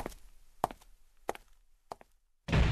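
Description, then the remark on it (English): A front door bangs shut loudly as a man leaves, right after four evenly spaced, sharp knocking footfalls crossing the room. No one speaks. “The bang of the front door told me that he had gone.”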